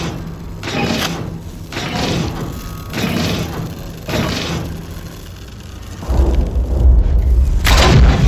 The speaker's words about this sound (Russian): Видит в конце пещеры круглую дверь с засовами в виде 7 металлических змей. Опустив палочку, подходит к двери. По окружности движется стальная змея. Засовы поочередно открываются.